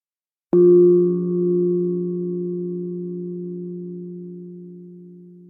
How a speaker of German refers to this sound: Wenn der Gong der Klangschale einmal erklingt, dürfen Sie mit der Übung beginnen.